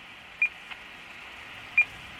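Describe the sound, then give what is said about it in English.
Two short, sharp beeps from a radio tracking receiver picking up a transmitter weighing about 6 grams (1/4 ounce), showing it is working, about a second and a half apart, ringing out over a steady bed of static hiss, with a faint click between them. “This set, or this transmitter, weighs about 6 grams, so about 1/4 ounce. Okay, so that means it's working. Okay. I'll listen to 5 beeps.”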